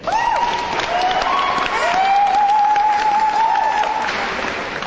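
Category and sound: crowd, audience applause and cheering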